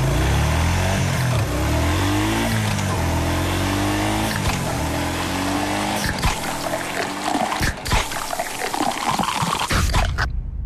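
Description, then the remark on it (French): A loud ATV engine revs up and down repeatedly, its pitch sweeping with each throttle burst, with some rough clattering toward the end before it cuts off abruptly. “Tu te sens vivant quand tu fais du VTT?”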